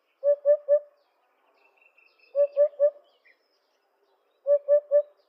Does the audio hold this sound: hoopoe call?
yes